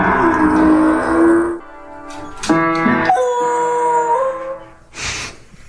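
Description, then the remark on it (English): Buddy Mercury, a Beagle Basset Hound mix dog, stands on his hind legs at a piano and howls in long, drawn-out, loud wavering wails while tapping the keys with his front paws, plunking a few notes clumsily in between, ending with a short breathy burst. “Stands on his hind legs next to a piano, taps the keys with his two front paws, and tilts his head back and...”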